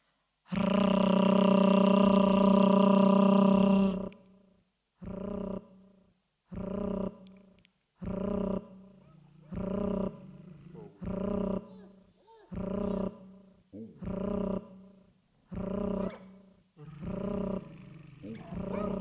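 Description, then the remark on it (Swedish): A voice rolls a loud, drawn-out R for about four seconds, a growl-like trill, then repeats it in about nine shorter rhythmic bursts with brief pauses between them. “Du hör hundbokstaven. Du hör R.”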